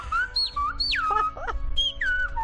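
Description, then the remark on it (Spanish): Loud, clear whistling in Silbo Gomero, a whistled language, in rapid gliding phrases, pitch sweeping up and down like whistled speech, alone with no talking over it. “Silba alto. Sí, que se escuche.”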